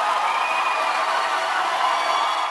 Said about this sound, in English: Crowds who came out to support a nearly 11-hour filibuster by Democratic State Senator Wendy Davis erupted in screams in an attempt to stop a vote on a bill that would have forced all but a handful of abortion clinics in Texas to close.